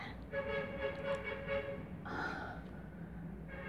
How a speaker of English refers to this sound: Fuck you, bus. I'm not even kidding. Listen to this. I don't think you'd want to fall asleep to that.